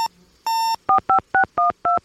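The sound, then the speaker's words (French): Satellite phone keypad tones as a woman places a call: a short beep and a longer steady tone, then five crisp, evenly spaced touch-tone key presses, clear with no voices. “Et sur son téléphone satellite, elle appelle”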